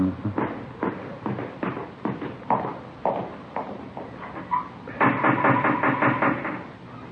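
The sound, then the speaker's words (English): A series of sharp, hollow knocks on a wooden front door, spaced unevenly over several seconds, followed by a quicker, denser flurry of raps toward the end. No one speaks. “Let's try the front door, huh?”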